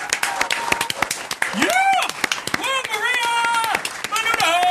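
A round of applause congratulating the company NCM on its first-quarter performance: dense, crackling hand claps running steadily throughout, joined by loud rising and falling whoops and whistle-like cheers over the clapping.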